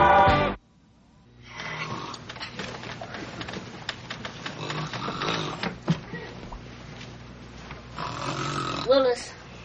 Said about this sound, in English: Stop snoring so hard. You're gonna suck your pillow right up into your nose.